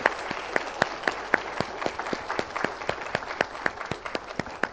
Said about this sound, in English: Let's give a big round of applause for each of these.